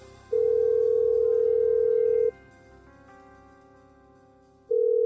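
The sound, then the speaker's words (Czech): A telephone line tone while a call is placed: a steady, clear tone lasts about two seconds, falls silent for over two seconds, then sounds again, over a faint low background hum. “Sada ćemo pozvati telefonom”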